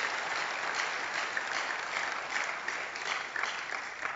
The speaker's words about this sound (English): Let's clap unto the Lord. Hallelujah.